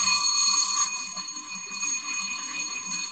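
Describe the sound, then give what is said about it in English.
A fire alarm bell rings continuously, a bright, metallic, steady clang that fills the space at a fairly loud level without pause, with no voices heard. “Fire alarm, listen to that.”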